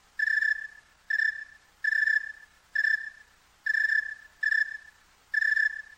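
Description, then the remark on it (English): A cricket chirps slowly and steadily on a cool night, about seven clear, ringing chirps spaced roughly a second apart, fairly loud against a quiet background with no voices. “Now, that's a cricket on a cold night or a cool night. Rather slow.”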